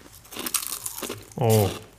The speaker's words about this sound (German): Also wir haben hier einen Glückskeks. Darf ich den essen oder hört man das, wenn ich das knusper? Wir essen das jetzt.